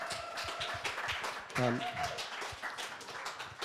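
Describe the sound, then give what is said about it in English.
An audience claps steadily for an absent woman who led a community project, a dense patter of many hands at even loudness, with a brief voiced cheer or call rising out of the applause partway through. “And so she's not with us today, but give her a clap anyway.”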